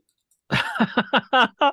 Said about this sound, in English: is munching down on something that's quite tasty. So it's called a pineapple bun, but it has no pineapple in it. It's called we call it a pineapple bun because the sugary crust on top of the bread.